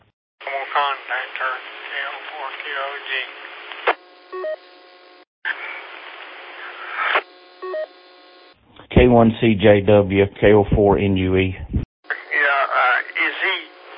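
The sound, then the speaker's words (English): Two short runs of telephone dialing tones, quick beeping button-press tones in a row, as someone makes a phone call over a narrow, crackly radio channel, between stretches of radio speech. “Is he making a phone call right now”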